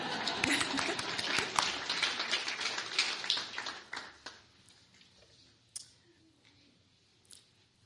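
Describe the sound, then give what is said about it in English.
An audience applauds a new teacher with dense, crackling clapping for about four seconds, then it thins to a few scattered, isolated claps before fading out. “And I like to applaud”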